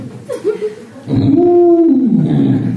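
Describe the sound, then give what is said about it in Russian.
After a few soft vocal sounds, someone voices a loud, drawn-out blaring call lasting about a second, imitating an elephant's trumpeting, strained. “Кто может показать их слоны?”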